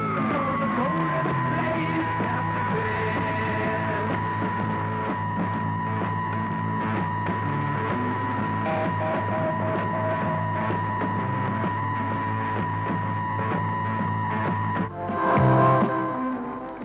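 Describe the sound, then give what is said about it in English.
A loud, unbroken radio jamming signal used by the British government against RNI's transmissions from off the Clacton-on-Sea coast: a harsh, buzzing drone of stacked steady tones that holds throughout, swelling briefly into a rougher burst near the end. No voices are heard. “After the arrival of RNI, the British government tried to stop the transmissions by jamming them.”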